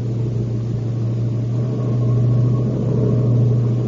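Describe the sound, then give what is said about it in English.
A vehicle engine drones steadily as it is pushed hard accelerating down a long mountain downgrade, a deep continuous hum with a rough rumbling texture that swells slightly louder partway through. No voices. “Gun it. Push it for all she's got. This is a long downgrade.”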